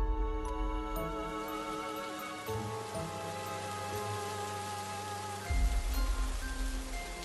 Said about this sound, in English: That night was raining unusually heavy.